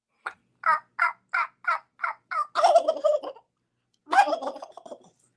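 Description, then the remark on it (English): A person imitates a turkey: about eight quick, evenly spaced hen yelps, then two loud, rattling gobbles separated by a short pause. Close and clear, with no talking. “Turkey gobble. All right. I'm going to do a hen and followed by a gobble.”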